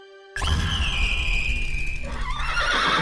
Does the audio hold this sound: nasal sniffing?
no